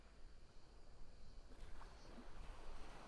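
ocean waves and wind

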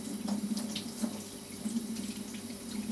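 tap water running

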